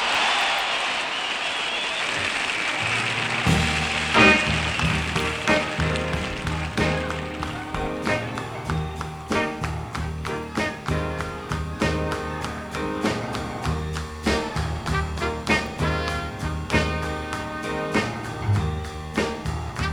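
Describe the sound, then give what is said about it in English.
A crowd applauds for a few seconds at the start to welcome a performer, a dense wash of clapping that fades as a band kicks in with steady drums and instruments carrying on to the end. “I'd like to have you welcome now with a warm round of applause a man whose voice everybody would like to have,”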